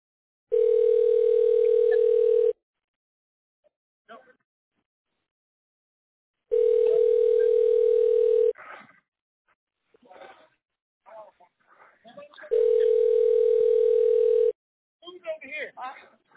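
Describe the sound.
A 911 emergency call rings unanswered: three steady, mid-pitched ringback tones, each about two seconds long, evenly spaced by pauses in which faint voices and rustling can be heard.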